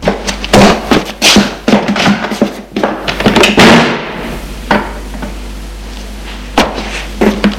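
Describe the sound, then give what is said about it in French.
A door slams shut as someone leaves a room, amid a burst of loud bangs and thuds, followed by a quieter stretch with a few isolated knocks. “Et sort de la pièce en faisant claquer la porte.”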